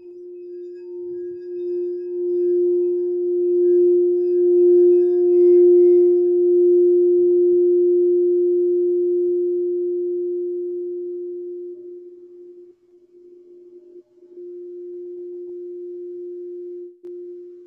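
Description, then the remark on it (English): A singing bowl, used with clients to bring them into deeper relaxation, is struck once and rings with a steady, pure mid-pitched hum, its brighter overtones fading early while the main tone sustains for many seconds with a slight waver. “I do have the bowl.”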